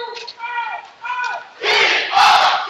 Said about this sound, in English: As you can probably hear, the sixth man getting loud. I hope you can hear him.